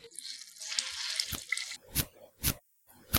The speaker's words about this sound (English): This girl was never idle, so she soon set to work on the mucklucks, fixing them up, pulling the soles out, wringing the water out, and putting them on the ground to dry.